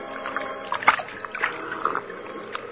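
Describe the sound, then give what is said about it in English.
A large man lying at full length on a bank of the Salinas River in California drinks greedily from the river in the late evening: water sloshes and splashes in a run of irregular, sharp bursts over a steady watery murmur, with no talking. “Two men scramble down the bank to the water's edge, and the larger of the two, an ungainly giant of a man, throws himself at full length and greedily drinks from the river.”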